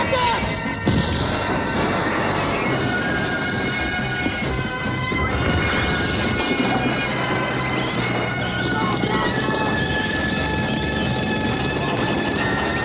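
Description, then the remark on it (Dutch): Meteorites crash down to Earth as fireballs in a loud, dense, continuous roar, with heavy impacts and rumbling debris piling up over each other throughout. “Die stenen gaan op de aarde af en tegen de tijd dat ze er zijn, zijn het vuurballen.”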